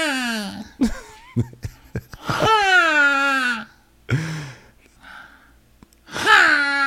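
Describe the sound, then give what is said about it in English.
A person imitates the moaning call of a neighbor's peacock with a series of loud, strained, high-pitched wails and gasping yelps, several drawn-out cries separated by short breathy pauses. “This is how this peacock moans.”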